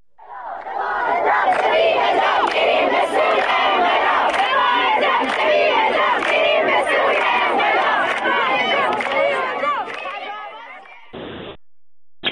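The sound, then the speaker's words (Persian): A large crowd at a fortieth-day memorial ceremony at a grave claps for a speaker and shouts slogans together in loud, sustained unison chants, with sharp claps and cries breaking through the roar for about ten seconds before it fades and cuts off. “اینجا هم جمعیت زیادی که گرد هم اومده بودن دست میزنن مدام برای کسی که داره صحبت میکنه و بعد با هم شعار میدن.”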